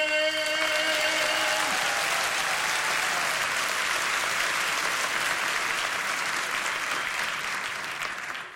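Loud, dense applause from a crowd, steady clapping throughout, with a sustained tonal hum fading out in the first couple of seconds, no one speaking.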